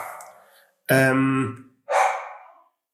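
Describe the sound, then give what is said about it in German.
A female dog barks a few times as someone walks by: a softer opening bark, then two loud, drawn-out barks separated by a brief pause, with no talking. “Da ist es. Da bellt sie.”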